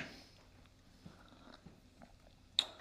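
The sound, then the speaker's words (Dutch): Someone takes a quiet sip of a drink, with faint mouth and swallowing noises, then a single sharp click near the end. No one speaks. “Ik neem heel even een slokje.”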